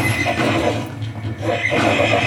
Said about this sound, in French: Elle perdait sa salive à force de hennir et de cracher sur le sol.